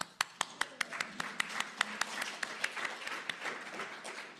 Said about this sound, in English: For all of you whose beliefs call you to actions, I'd like to give a big round of applause.